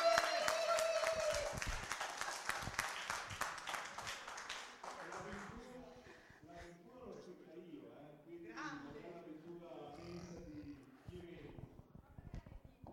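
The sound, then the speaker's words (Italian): A burst of audience applause, dense and loud for about five seconds, then dying away as people begin talking over the last scattered claps. “Sentite l'applauso, sentite l'applauso.”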